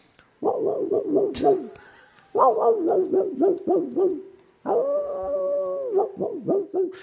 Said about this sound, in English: Okay, I guess I'll start with a dog barking in the distance. Heard it. Oh. Okay, no, seriously, this is the backdrop of me falling asleep in Kansas.